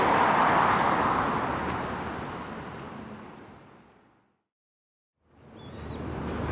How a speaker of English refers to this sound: But anyway, speaking of bridges, with bridges comes traffic, and with traffic comes noise. So let's pause the podcasting until I get to the Tokyo Tower, or thereabouts.